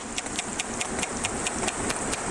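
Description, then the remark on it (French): Sharp, evenly spaced clicks from a sperm whale echolocating underwater, made by bones clacking in its skull, about five per second in a steady train over a dense, hissing background of water noise, as heard from a submarine. “Un cachalot, ça fait ce bruit-là dans l'eau.”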